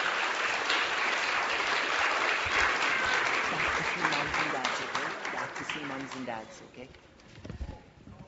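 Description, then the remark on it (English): A crowd claps steadily and loudly for preschool children, a dense wash of applause that holds for several seconds before thinning out toward the end, with a few voices faintly mixed in. “Can we get one more round of applause for these fantastic preschoolers?”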